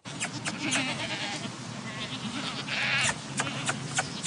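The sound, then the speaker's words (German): Several goats bleat in overlapping calls at a goat cheese farm in Bad König in the Odenwald, Germany, amid steady background noise, their cries rising and falling with a louder cluster near the end. “Im Odenwald, da tritt ein junger Mann in die Fußstapfen seines Vaters auf dem Ziegenkäsehof Weiße Hube in Bad König.”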